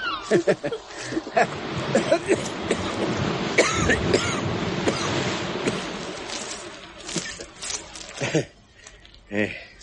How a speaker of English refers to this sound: And the sea, making the pebbles shiver.